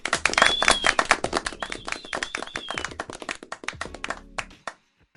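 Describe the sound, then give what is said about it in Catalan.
A crowd applauds loudly with dense, rapid clapping and a few high whistles or cheers mixed in, then the applause thins out and stops abruptly. “Un fort aplaudiment.”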